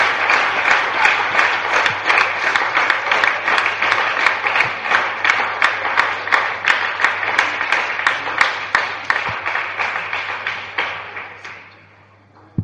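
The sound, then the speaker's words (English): An audience claps and applauds steadily together for God during a Christian worship service, a dense, lively burst of many hands for about ten seconds before fading out, with a single sharp clap at the end. “Let's clap again for God.”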